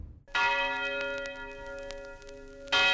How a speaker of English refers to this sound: At 9 o'clock, a big bell would ring, dong, dong, and you knew that was for you, if you were black, to get out of the white city.